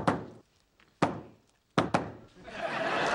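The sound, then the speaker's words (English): A secret knock on Penny's door by Howard and Raj: four sharp, hollow raps in an uneven pattern, two spaced apart and then a quick double knock, followed by a rising wash of muffled noise. “This is the secret knock.”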